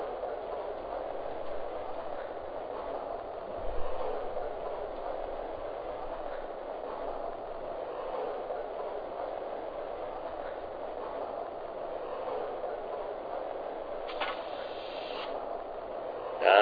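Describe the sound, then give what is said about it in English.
A passenger train pulling out, train number 3 on track 2 bound for Cincinnati, rumbles and rolls along steadily, a continuous mechanical clatter with a brief brighter rattle near the end; no one speaks. “Cincinnati, track 2, train number 3, the Pocahontas. Let's get down the line.”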